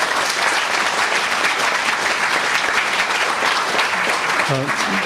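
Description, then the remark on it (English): Steady, sustained applause from an audience for the people who worked on a day-long series of conversations, a dense wash of many hands clapping at an even loudness throughout, with a brief voice or murmur surfacing near the end. “I will leave one more thank you to the end of my remarks, but it has been extraordinarily important in working with all these people, and please join me in giving them a warm round of applause.”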